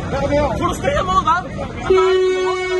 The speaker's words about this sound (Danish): Det du hører her, det er optagelser fra en motorvejsfrakørsel i Hvidovre. I går flere frustrerede bilister måtte ud af bilerne og hive demonstranter væk, da foreningen Nødbremsen satte sig ned i et fodgængerfelt og blokerede afkørslen.